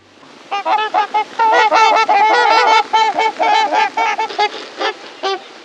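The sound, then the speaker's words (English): A flock of about a dozen swans flying in a straight line on a sunny November morning calls overhead in a steady stream of loud, nasal honks and bugling notes that overlap in a busy chorus for several seconds, with no voices. “With deep, unhurried wing beats, a dozen majestic swans fly in a straight line, their immense white bodies glistening in the golden sunlight of a November morning.”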